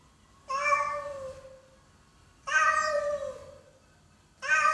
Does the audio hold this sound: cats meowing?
yes